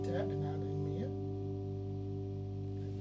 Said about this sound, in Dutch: Of, wat ik fijn vind, met een langere echo, de steel.